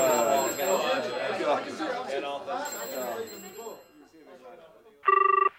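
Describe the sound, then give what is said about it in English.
People talk for several seconds, then after a brief pause a telephone rings once, a short, loud electronic trill cutting in near the end. “It's ringing, sir.”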